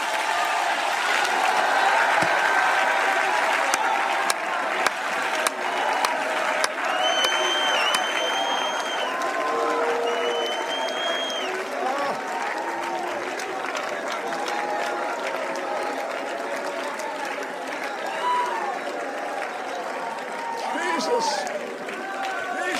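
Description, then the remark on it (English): An audience at a worship service praising Jesus claps their hands in a dense, steady roar while many voices shout and whoop over it, loud and sustained for the whole stretch without easing off. “Clap your hands again and shout.”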